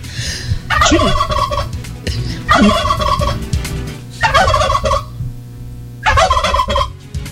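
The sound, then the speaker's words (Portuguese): A turkey gobbles four times in loud, rapid warbling bursts, each about a second long and separated by short pauses, with a low steady hum underneath and no talking; played as a sound effect. “Quer dizer, o colega tá me elogiando e vocês botando sonora de peru.”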